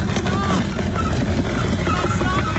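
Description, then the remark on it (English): A wrecked car wedged onto a truck clatters and scrapes as the truck drags it along at speed, a loud, continuous metallic grinding roar with faint whistling squeals over steady rumbling noise. “Yeah, you hear the clotting of the what's left of the car.”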